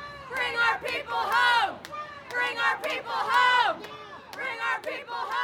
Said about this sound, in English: After gathering in a church, the crowd takes to the streets, marching with banners that read, "End death by incarceration," and "Transformation, not retribution."